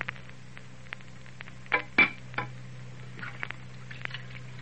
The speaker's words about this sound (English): Well, now at Ma's house, out in the kitchen, Faye and Joseph are doing the dishes. Listen.